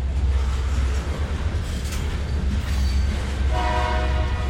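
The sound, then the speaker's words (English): A grain-hauling freight train on the only remaining rail line in Concordia, Kansas, rumbles past with a steady, heavy low roar, and near the end its horn sounds a sustained blast over the rolling noise. No one speaks. “There's only one train line left in Concordia, Kansas, and these days it hauls grain.”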